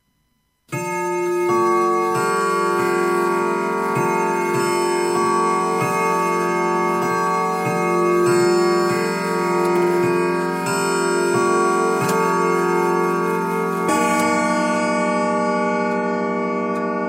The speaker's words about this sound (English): As the clock in the hall strikes one, Cecil is startled awake.